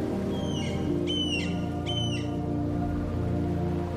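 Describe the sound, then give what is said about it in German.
A seagull calls in the distance over a beach, three short cries spaced about half a second apart, over a steady low rumble of waves rolling evenly onto the shore. “In der Ferne hörst du noch den Ruf einer Möwe.”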